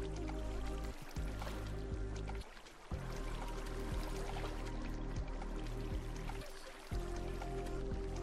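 A steady, continuous rush of flowing water in a video game, with a soft, synthetic quality, filling the scene at moderate loudness, briefly thinning out a couple of times before resuming. No one speaks.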